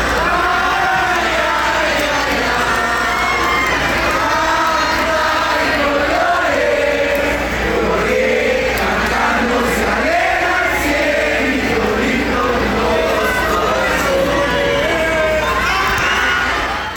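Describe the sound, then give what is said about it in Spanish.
A large stadium crowd of fans at a match sings the folk song Cielito Lindo together in a loud, continuous swell of many voices, with shouts and cheers rising over the melody throughout. “Lo único que se escuchó durante todo el partido fue el cielito lindo, y vamos a escucharlo para que vean qué bonito.”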